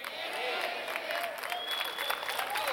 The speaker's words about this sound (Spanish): Le doy un aplauso al Señor.